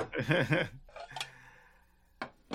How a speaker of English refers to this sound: So now that we hear the plates. Yep, I was about to say, here's some dishes.